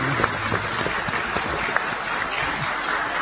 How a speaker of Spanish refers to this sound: Les pido que vayamos recibiendo con un aplauso entonces a Carlos Maggi.